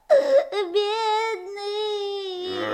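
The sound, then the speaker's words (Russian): A voice imitates a hare crying, a drawn-out whimpering wail with a steady high pitch, fairly loud, lasting nearly three seconds with a brief break early on. “Вот опять сидит зайчик под березой и плачет.”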